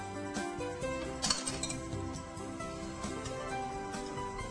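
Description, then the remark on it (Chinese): A dish of steamed taro is lifted out of a cooking pot, with a few light clinks of crockery against metal, the sharpest near the middle, over a steady background hum. “那我们就把它起锅咯。”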